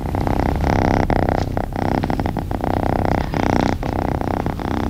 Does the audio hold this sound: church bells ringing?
no